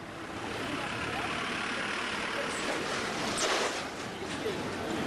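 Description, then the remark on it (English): A dense, unbroken roar of busy, chaotic street traffic in Mumbai, engines and road noise blending into one loud wash, with a brief louder surge partway through and faint voices mixed in. “I wanted to play you again a little clip of tape that we have of Mumbai, and if you want to talk about a chaotic driving place.”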